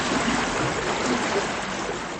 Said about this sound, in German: Die Wassertemperatur beträgt fast 40 Grad Celsius. Wir geben 39,8 Grad Celsius an. Wir nennen es Spiegelbad, weil die Badegäste direkt wie an einer Quelle sitzen und das Thermalwasser dort praktisch ununterbrochen zufließt.